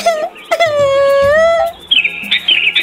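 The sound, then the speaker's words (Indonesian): A long, wavering high-pitched wail fills the first part, then a sooty-headed bulbul (kutilang) chirps in quick, bright bursts near the end, fairly loud; the bird is perched in a tree near a caged monkey. “Anak-anak, saat Monkey memuji Tuhan, seekor burung kutilang mendengar Monkey memuji Tuhan.”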